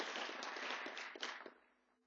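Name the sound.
audience applauding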